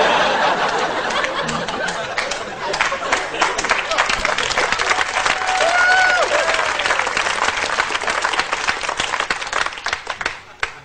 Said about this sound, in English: I had another line, but it's too late. You clapped too long. The rhythm is over.